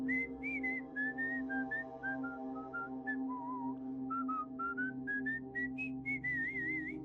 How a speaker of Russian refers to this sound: Я присел и прислушался. И точно в 3:03 мы услышали насвистывание.